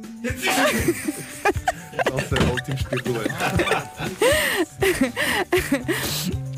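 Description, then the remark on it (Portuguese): Several sharp, forceful sneezes burst out in quick succession, loud, mixed with laughter and people talking around them. “Foi uma boa coleção de espirros.”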